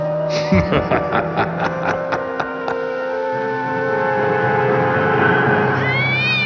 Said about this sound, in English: stop squeezing Malachi that hard. You're hurting him. Have you never held a cat before?